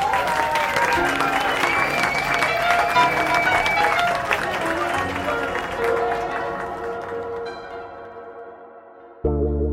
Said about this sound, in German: Aber bevor Sie zugreifen und den Rest des Abends genießen, bitte ich Sie um einen Applaus für die bezaubernde Sängerin des Abends, der Rising Star des Blues, Miss May Barnes.